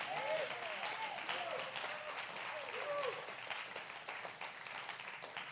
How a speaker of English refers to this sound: Come on, let's clap our hands and say amen on that.